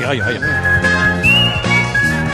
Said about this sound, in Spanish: Y el que silba también.